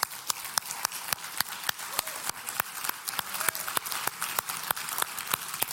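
A round of applause made of crisp, evenly spaced claps, roughly four per second, steady and moderately loud for about six seconds over a faint hiss, with no one speaking.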